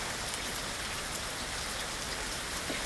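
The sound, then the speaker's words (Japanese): Steady rain patters on surfaces in a continuous, even hiss with scattered drop ticks, unbroken throughout, with no voices. “ポコはそれを聞いて初めて雨音に興味を持ち始めました。”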